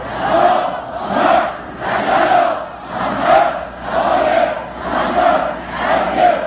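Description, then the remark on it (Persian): A large crowd loudly chants salawat in unison for the souls of martyred firefighters, the massed voices rising and falling in steady rhythmic waves, about once a second, with no single voice standing out. “شادی روح شهدای آتش نشان، صلوات بلند بفرست.”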